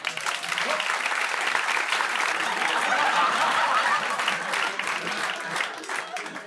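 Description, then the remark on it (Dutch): Sustained applause from a large audience for the orchestra after a song, dense and steady clapping for several seconds, with a few scattered chuckles mixed in and no one speaking. “Het orkest had nog geen applaus gehad, dus voilà.”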